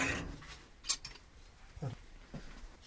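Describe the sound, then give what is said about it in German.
A few short metallic scrapes and clinks of a fork against dishware, irregular, with quiet gaps between them and no talking. “Dann geht man mit einer Gabel dran.”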